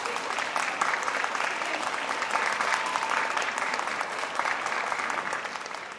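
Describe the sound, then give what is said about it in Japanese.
An audience gives sustained applause to the Yao High School calligraphy club after its calligraphy performance. Many hands clap at once in a dense, steady wash that stays fairly loud and even throughout the six seconds, with no talking over it. “八尾高校書道部の皆さんにもう一度盛大な拍手をお願いします。”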